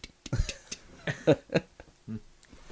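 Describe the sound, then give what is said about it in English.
A voice makes a string of clicking, tick-like mouth sounds imitating a ticking old-fashioned wind-up clock, about half a dozen fairly loud clicks in a slightly uneven rhythm. “I've got my old-fashioned wind-up clock next to these wires.”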